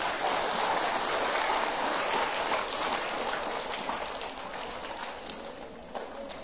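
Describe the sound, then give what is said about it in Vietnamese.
A large crowd applauds at a Sunday gathering at a Buddhist temple, in a dense, steady wash of clapping that holds for several seconds and gradually thins toward the end, with no voices over it. “Dành một tràng vỗ tay thật lớn.”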